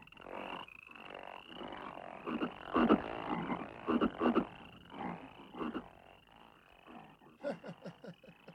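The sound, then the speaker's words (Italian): A dense chorus of many frogs croaking together, loud, with overlapping pulsing calls rising and falling throughout and a steady high-pitched hum of insects or peepers behind. “Ma non abbiamo bisogno di altre rane. Mandare via queste.”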